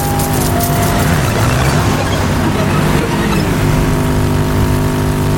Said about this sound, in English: There are a lot of cars on this highway.